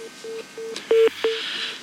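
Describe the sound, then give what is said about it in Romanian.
A telephone line signals an incoming live call on a radio broadcast: a series of short, evenly spaced beeps at one steady pitch, with a couple of louder clicks in the middle and a faint hiss behind. No one speaks. “Avem un telefon în direct, bine ați venit în emisiune, vă ascultăm.”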